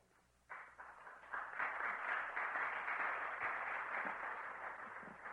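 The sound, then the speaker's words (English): An audience of men at a seminary breaks into applause before a professor of historical theology speaks, starting abruptly and swelling into steady, dense clapping that holds strong throughout, with no voices heard over it. “That's a demonstration that you are men of faith when you applaud before you hear what you're going to get.”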